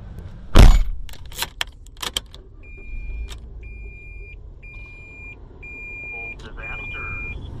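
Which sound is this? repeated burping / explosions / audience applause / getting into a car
getting into a car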